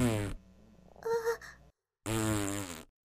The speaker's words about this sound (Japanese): ダメ、我慢できない。大丈夫、またさっきみたいにこっそりすれば。ダメ、ガスが、おならが、で、出る。